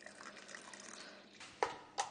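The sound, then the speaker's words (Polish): A little still water is poured into a blender jug holding small mango pieces, in a low, steady trickle, with two brighter splashes near the end. Nobody speaks. “Żeby nie było za gęste, odrobinę wody.”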